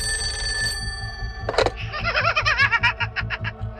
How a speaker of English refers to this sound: The babysitter hung up, hoping the creepy call was just a prank. But then, the phone rang again.